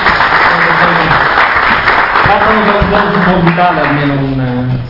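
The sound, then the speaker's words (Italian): Steady, loud applause from an audience fills the whole stretch, a dense patter of many hands clapping for a flight crew called onto the stage, with a voice speaking over it toward the end. “Un applauso glielo possiamo fare”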